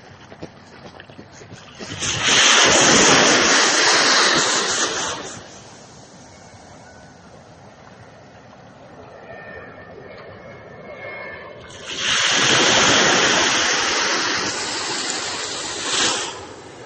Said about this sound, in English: I'm going to stop talking for a few seconds, and I want you to just listen to the waves while you're doing this. I'm going to stop now.